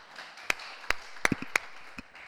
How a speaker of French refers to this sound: Et oui, on peut l'applaudir.